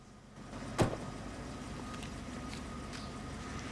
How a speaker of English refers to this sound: From Peter standing on the edge of a tall building to Nathan on the phone as he gets out of a yellow cab in a city back alley.